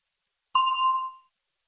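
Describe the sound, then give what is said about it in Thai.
A single bell ding: one clear, high, bright strike that rings out and fades smoothly in under a second, heard alone with silence before and after. “คำถามสำหรับท่าน A question for you ก่อนท่านจะตอบคำถามที่ว่านั้นให้ท่านรอฟังเสียงกระดิ่งดังขึ้นก่อน”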